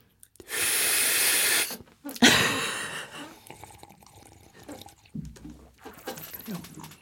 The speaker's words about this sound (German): Da hat doch einer geschlürft, oder habe ich das falsch gehört? Gibt's da wieder einen Schlürfer?